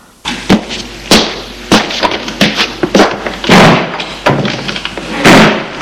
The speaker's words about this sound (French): À partir de ce jour, la vieille entre en faisant claquer la porte fortement et sort de la même façon.